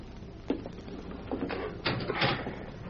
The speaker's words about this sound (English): There's the door unlocked, Thorne. In you go.